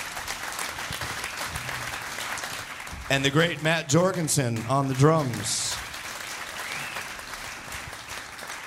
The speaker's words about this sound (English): And I'd like you to applaud one more time the great … on guitar.